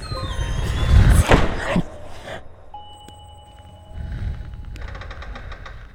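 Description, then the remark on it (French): Heavy doors bang shut in a castle with loud, booming slams early on, followed by thin, drawn-out creaks and scattered clicks of old floorboards. “Des portes claquaient, des grincements de plancher et parfois un souffle froid sur leur nuque.”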